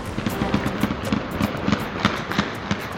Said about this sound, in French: Des coups de feu dans la nuit de Kaboul pour célébrer le départ des Américains d'Afghanistan. Les talibans fêtent leur victoire, mais de nombreux Afghans redoutent maintenant les représailles du régime islamique.